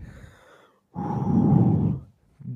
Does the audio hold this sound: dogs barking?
no